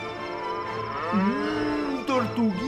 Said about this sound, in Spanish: Mugía a su vez la vaca dibujada en el extremo izquierdo de la falda.